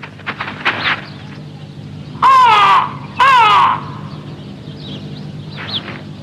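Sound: birds calling outside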